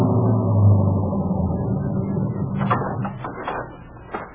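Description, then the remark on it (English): A police car's engine rumbles low and steady, then slows as the car pulls up off a dirt road and halts at Sportsman's Retreat in the Catskills, with brief mechanical clunks and rattles near the end. No one speaks. “And 20 minutes later, we were pulling up in front of the line.”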